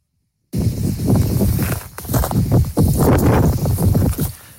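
Wind heard at the site of a wildfire in the Minervois, France, which has burned 900 hectares of pine forest. After a brief silence it blows in a loud, rough, continuous rumble, surging and dipping in gusts with a heavy low roar. No voices are heard.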